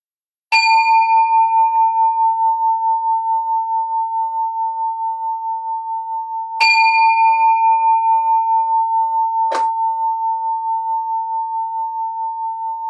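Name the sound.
bell ringing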